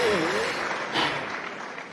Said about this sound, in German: Das war ein kurzer Applaus.